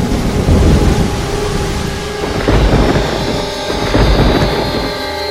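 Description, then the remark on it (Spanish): A loud thunderstorm with heavy, steady rain and deep rolling thunder rumbling through, swelling and surging in waves over several seconds, with no voices present. “En mi camino, cerca de Cuba, un terrible temporal nos golpeó con la fuerza de 1000 tormentas.”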